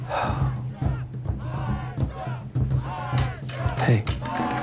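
audience cheering

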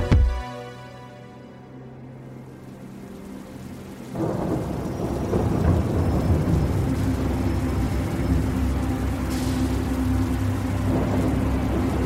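rain with thunder

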